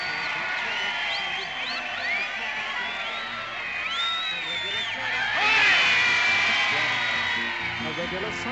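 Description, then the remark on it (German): A huge crowd of many thousands cheers and shouts continuously as the neon lights at Piccadilly Circus, London, are switched on at a ceremony, a dense wash of whoops, high calls and babbling voices, swelling louder for a moment near the middle before settling back into a steady roar. “die Lichter am Piccadilly Circus gingen an, unter dem Beifall der vielen tausend Menschen, die der Zeremonie beiwohnten.”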